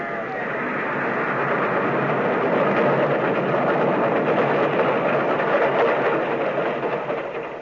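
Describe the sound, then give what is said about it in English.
A train rumbles steadily closer, sounding its bell and whistle, a dense roar of wheels and engine that swells slightly and holds loud for several seconds, with no voices. “The train was coming closer. I could hear its bell. Or its cry, its whistle crying.”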